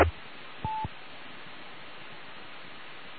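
One short telephone keypad tone beeps briefly over a steady background of hiss and static, with no voices.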